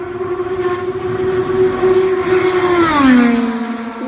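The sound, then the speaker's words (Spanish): A race car screams past at about 372 km/h during testing on a steeply banked curve of the Texas oval, its loud engine whine steady as it approaches and then dropping sharply in pitch as it rushes by, with no voices. “Y, si te parece, nos va a pasar un coche a toda velocidad, nos va a llevar el aire porque va a 372 kilómetros por hora.”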